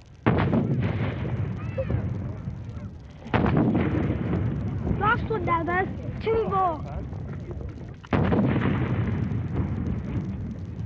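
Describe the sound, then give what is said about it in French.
Three loud cannon blasts, the final shots of a 41-gun royal salute in London, boom out several seconds apart, each with a long rumbling echo, while faint voices murmur in the background between the shots. “C'est fini, le dernier coup de canon vient d'être tiré.”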